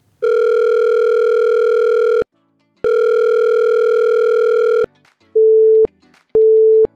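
A telephone line rings twice before reaching a voicemail box, with long, steady, buzzy tones separated by a short pause, followed by two brief, higher beeps. No voices are heard.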